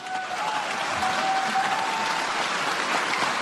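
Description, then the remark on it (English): Sustained applause from a large crowd after a speech, a dense, even wash of clapping that holds steady at a strong level throughout, with a faint thin tone drifting through at times. “Applause and praise from around the world for these hysterical, false statements she's making.”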